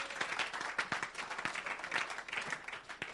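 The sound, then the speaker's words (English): An audience breaks into steady applause for the Lord Jesus, many hands clapping in a dense, crackling patter with sharp individual claps poking through, sustained at moderate loudness for a few seconds with no voices. “Clap for the Lord Jesus.”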